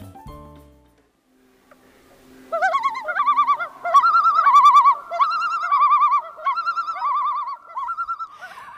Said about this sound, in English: And, of course, you just heard some more common loons there.